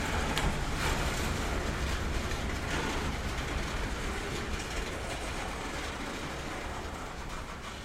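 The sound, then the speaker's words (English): A long coal train rolls past, a steady heavy rumble with rhythmic clickety-clack of wheels over rail joints, holding loud for the whole stretch and easing only slightly toward the end. “Count the cars on the coal train and be so proud if we made it to 100 without losing count.”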